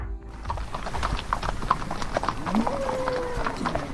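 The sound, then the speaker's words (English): Several horses' hooves clip-clop in a brisk, overlapping rhythm on hard ground as riders drive about 450 head of cattle with about 30 horses along historic stockmen's routes in Queensland's North Burnett, west of Bundaberg; a faint whinny and background murmur of riders and livestock. “Dozens of horse riders have spent a week retracing historic stockmen's routes through Queensland's North Burnett, west of Bundaberg, as … reports.”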